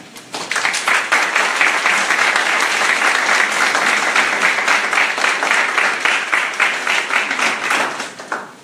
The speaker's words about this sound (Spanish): Pedimos un fuerte aplauso para nuestras compañeras.